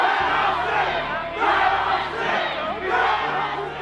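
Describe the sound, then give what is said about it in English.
A large crowd at the Capitol shouts and yells together, screaming to be let into the building, in a continuous, loud roar, with surging waves of agitated voices swelling and falling over a few seconds. “A burly dude in a Hawaiian shirt at the front of the crowd, screaming to be let in.”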